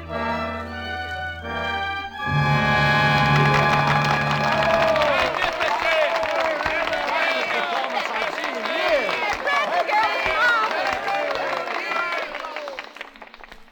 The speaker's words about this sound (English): I suppose I should thank you on behalf of the company. And I know that I'm grateful for your applause. But I must tell you that I don't deserve it.